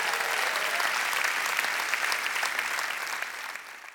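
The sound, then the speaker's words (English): An audience at the Rock Church and World Outreach Center applauds in praise after a sermon, a dense, steady wash of clapping that holds strong for several seconds, then gradually thins and fades toward the end, with no voices standing out. “Wouldn't you give him a great big praise?”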